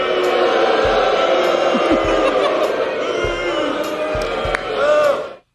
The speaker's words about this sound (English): You know, whoever said that last boo, that was a vibe. The House erupted with booing on Wednesday as Greene took the floor to air her grievances and force a vote on whether or not Johnson should keep his speakership.